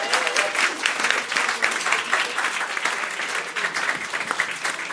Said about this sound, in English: Yeah, so just one last big round of applause for everyone that performed. Writers, short storytellers, flash fiction, thank you very much.